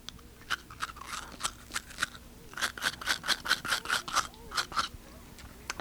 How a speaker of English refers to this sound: The third sound is teeth with a toothbrush.